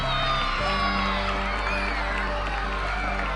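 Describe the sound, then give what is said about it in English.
A crowd of children cheers and shouts excitedly on being told each of them will get a bike, a dense, continuous burst of high-pitched whoops and yells, loud throughout with no single voice standing out. “As you saw some of the crowd reaction when he said, here's a pledge, and how would each one of you like to get a bike?”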